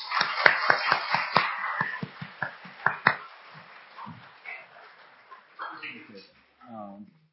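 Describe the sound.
A crowd applauds with a burst of sharp, overlapping hand claps that thin out and fade after about three seconds. A man's voice starts speaking near the end.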